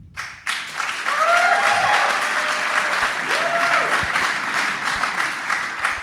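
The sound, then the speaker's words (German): A crowd bursts into sustained applause and cheering for cyclist Jonas Vingegaard in a cheering contest about the men's Tour de France, dense clapping filling the whole stretch, with a few rising whoops and whistles cutting through the roar before it eases slightly toward the end. “Wir machen jetzt mal so einen kleinen Jubel-Contest. Wer ist für Jonas Vingegaard?”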